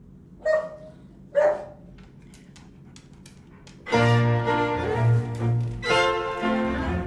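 A medium-sized dog, being given food, barks twice with a pause between. Then it makes a louder, drawn-out, tonal series of whining yowls that run for a few seconds.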